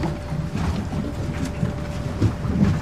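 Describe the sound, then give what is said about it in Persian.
A steady low rumble of boat engines over water as two more boats arrive, with wind and sea noise washing through and a few swells in loudness, no voices present. “دو تا قایقی دیگه هم رسیدم.”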